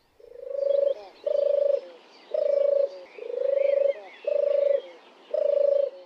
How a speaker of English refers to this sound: Oh, and apparently it purrs rather than sings. Maybe you can find us a bit of tape of a purring turtle dove